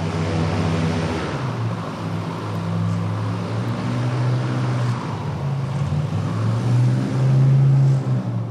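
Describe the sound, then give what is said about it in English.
A pair of U.S. Border Patrol airboats joining a rescue effort roar steadily, a loud droning engine-and-propeller hum whose pitch rises and falls slightly as they run. No one speaks. “A pair of airboats operated by the U.S. Border Patrol have joined the rescue effort.”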